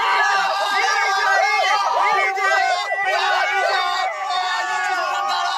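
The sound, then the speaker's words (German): A group of excited voices shouts and cheers at once, a dense, continuous burst of overlapping yells and squeals that stays loud throughout, as the group jumps, screams and cheers. “Sie springen, schreien, jubeln.”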